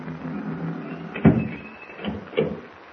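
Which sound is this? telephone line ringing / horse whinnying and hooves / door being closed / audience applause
door being closed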